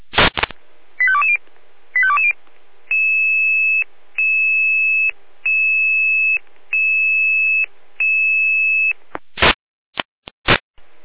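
A fire brigade alerting tone calling out the Stadt Roda fire brigade to give urgent carrying help to the ambulance service: two short warbling chirps, then five steady, loud, high-pitched beeps about a second long with brief gaps, ending in sharp bursts of static.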